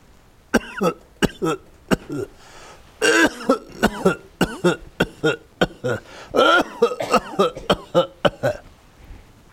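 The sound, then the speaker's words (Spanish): A rapid series of sharp coughs and throat clearings, bursting out one after another in an irregular rhythm, with a few brief pauses between clusters and no speech. “Estoy limpiando, hay muchas toses en el ambiente.”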